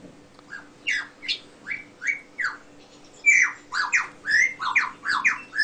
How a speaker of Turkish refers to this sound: Lir kuşu bu. Duyduğu bütün sesleri taklit edebiliyor. Bu çıkardığı sesler de kendine ait karakteristik sesi değil. Başka kuşların taklidi yapıyor. It's a very convincing impersonation. Başka kuşların taklidini yapıyor şu anda.